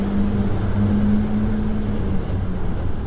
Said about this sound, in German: Rasante Fahrt im offenen Geländewagen. Der Fahrer blendet die Lichter auf. Spiralförmig windet sich die Strecke immer tiefer in das Bergwerk hinein.